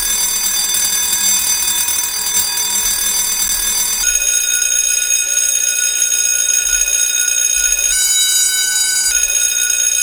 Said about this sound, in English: Pick up super bonus. That sounds like a school bell.